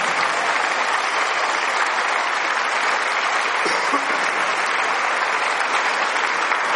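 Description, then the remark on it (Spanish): Steady, dense applause from a large audience for married couples standing together, a continuous wash of many hands clapping at even loudness with no voices standing out. “Ahí están, la gente los aplaude.”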